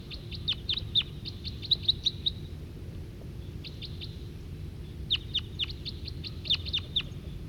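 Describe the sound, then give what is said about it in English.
A wild male siskin gives bursts of quick, high, thin chirping calls in short clusters with pauses between, over a low steady rumble of background noise. “And that's the wild male giving calls, and he's nearer now.”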